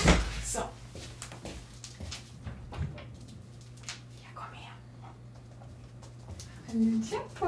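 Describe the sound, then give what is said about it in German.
Shuffling and creaking as a chair shifts when someone stands up from it, ending in a short, low squeak near the end, with soft breathy noises and a steady background hum. “Achtung, wird vielleicht ein bisschen quietschen, der Stuhl.”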